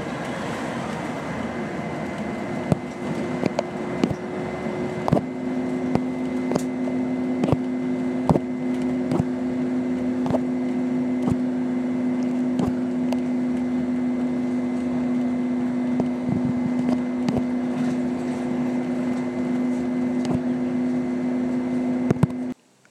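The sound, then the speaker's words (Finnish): A steady engine drone fills the inside of a moving, non-air-conditioned, ordinary Finnish-type bus heading towards Elta, with a sustained low hum, rattles and clicks scattered throughout, and no talking. “Toisin kuin tuo edellinen bussi, niin tämä bussi ei tunnu olevan ilmastoitu. Vaikka muuten hyvin normaali suomalaistyyppinen bussi.”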